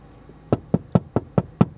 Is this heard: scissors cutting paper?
no